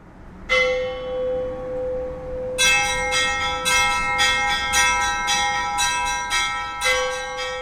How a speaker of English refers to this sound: You know, we're told that the bells are the voices of the angels calling us to worship, so it starts your sort of religious experience from even before you enter the church.